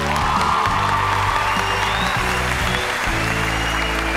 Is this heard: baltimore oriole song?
no